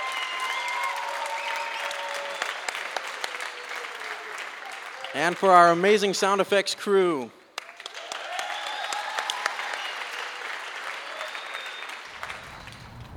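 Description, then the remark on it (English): Sustained audience applause for the actors of an audio drama performed for a live audience in Phoenix, Arizona, fills the whole clip, a dense steady wash of many hands clapping, briefly interrupted midway by a voice speaking over it before the clapping resumes and fades. “Can you get one more applause for these wonderful actors?”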